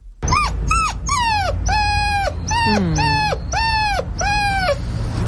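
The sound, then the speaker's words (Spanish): A person imitates the whine of a dog sitting and staring while waiting to be given its dinner, voicing about seven high, drawn-out whimpering cries in a steady sequence, fairly loud, each note sliding and wavering plaintively. “O sea, es que, joder, mientras el perro ahí sentado, mirándome impertérrito, buscándome la mirada y haciendo”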